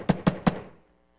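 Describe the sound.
Three sharp, heavy knocks of an old man's cane against a wooden church door, struck in quick even succession, each with a hollow woody thud, then the sound fades to quiet.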